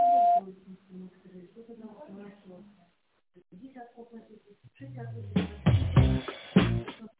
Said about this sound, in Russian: Вы позвонили в компанию ProSoft Системы. Пожалуйста, после звукового сигнала в тоновом режиме наберите добавочный номер абонента или дождитесь ответа секретаря.